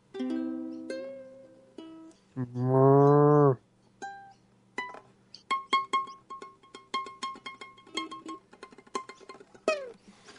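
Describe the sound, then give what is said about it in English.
People moo like cows in a playful sung jingle for Moo Cards: a few short moos, then one long, loud rising moo, followed by a rapid run of choppy vocal bursts and a final rising call. “Shall we do the Moo Card jingle?”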